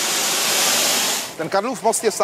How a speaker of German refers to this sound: Aus seinem Spezialfahrzeug hat er den Schlauch seines Hochdruckreinigers ausgerollt und demonstriert, wie das Gerät funktioniert.